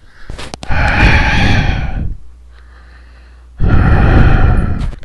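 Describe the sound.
Heavy, rasping respirator-style breathing, loud: one long drawn breath, a brief hollow pause, then another equally long breath, with no talking.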